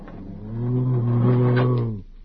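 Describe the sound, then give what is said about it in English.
A person imitating a bat lets out a single low, sustained growl lasting about two seconds, voiced and steady, with no other sounds around it. “Bats don't growl, they squeak.”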